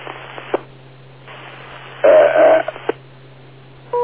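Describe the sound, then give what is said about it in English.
Over a muffled phone line, a few clicks and a louder electronic warble give way to a steady, mid-pitched electronic beep that starts abruptly at the very end. “Okay, now I've got a beep.”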